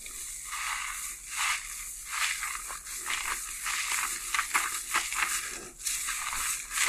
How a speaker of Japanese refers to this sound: シャンプーを地肌で泡立てたりしてない？そういうの洗い残しの原因になるから、ちゃんと泡立ててから洗うんだよ。はい、泡泡もこもこでシャンプーいきまーす。